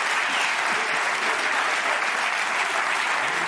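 Steady, dense audience applause with many hands clapping at once, a continuous bright crackle that holds at an even loudness for the whole stretch without any voices over it.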